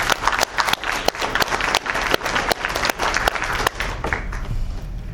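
A room full of people applauds steadily, many hands clapping at once in a dense, continuous patter that holds for several seconds before tapering slightly toward the end.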